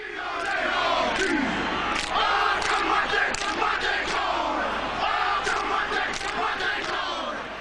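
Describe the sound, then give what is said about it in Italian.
A Maori haka war chant performed by the New Zealand national rugby team: many male voices shout and bellow together in forceful, rhythmic bursts, loud, with sharp accented calls over a dense crowd-like roar throughout. “La famosa H degli All Blacks, la nazionale neozelandese”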